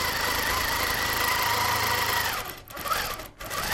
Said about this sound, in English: Thorpe's giant sewing machine, a gift from his mother, takes up most of the room. Its automated sewing arm allows him to work at a breakneck pace.